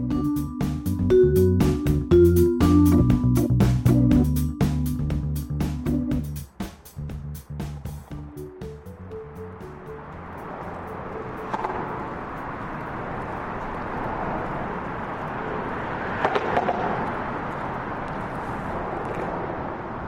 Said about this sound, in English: That sound that you're hearing right now is the traffic on that once upon a time viaduct. When we were here in the 90s and early 2000s, there's 85 decibels of background noise coming off the viaduct.